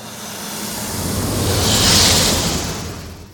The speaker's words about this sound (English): This bass layer is the car pass-by that I made to layer under all these and sort of give them consistency. So here's a version of the TIE Fighter sound that instead of the elephant, I played a snake sound.